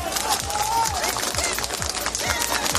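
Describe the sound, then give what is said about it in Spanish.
Firefighters clap steadily in a dense, continuous patter of hand claps, with voices calling and shouting over the applause throughout, celebrating the rescue of two young people aged 17 and 20 from under the rubble of a building in southern Turkey after an earthquake. “Con estos aplausos celebraban los bomberos el rescate de los dos jóvenes de 17 y 20 años.”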